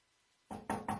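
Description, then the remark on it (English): Three firm, loud knocks on a door sound in quick succession after a moment of near silence, each with a short resonant ring, and no voices accompany them. “That knock that your child or grandchild or niece or nephew or cousin has been shot.”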